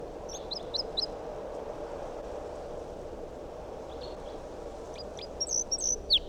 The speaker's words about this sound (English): Still 8:02, and that wild bird is up in the big pine tree above the net. Song. That sounded like type 2 calls.